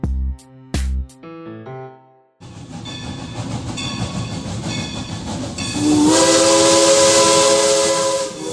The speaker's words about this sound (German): Einer der Höhepunkte des Frühjahrsprogramms in Saalfeld ist der Besuch einer 91 Jahre alten Dampflokomotive in ihren ganzen schnaufenden Pracht.